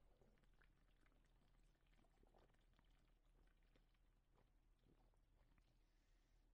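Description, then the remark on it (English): An alcoholic drink being poured and sipped, with soft liquid trickling, small slurps and wet mouth sounds over a low steady hum, quiet throughout and with no talking. “How's that sip? This is tasty.”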